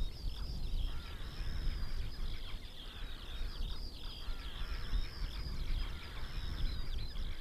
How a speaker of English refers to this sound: just behind us, you can hear the gorgeous sound of the skylark trying to impress his wife, maybe? The skylark is, for me, the sound of summer on the dunes, as the wild geese are the sound of winter. And that's a gorgeous song.